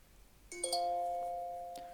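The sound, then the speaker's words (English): A bright electronic chime signalling a page turn during a reading of the book Hen sounds once at half a second: a quick two-note ding-dong whose clear tones ring on and slowly fade, with a soft tap near the end and no talking. “When you hear this sound, please turn the page.”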